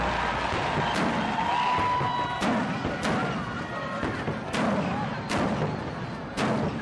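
Fireworks burst at the close of a City Day celebration in a loose, irregular series of about six sharp booms, set against a steady wash of outdoor crowd noise and murmuring voices.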